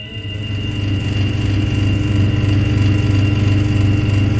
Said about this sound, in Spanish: Las mil piezas de la máquina se mueven, giran, se deslizan en diferentes sentidos, se juntan y se separan, descienden, suben, sudando grasas infectas, trepidando, chirriando hasta el vértigo.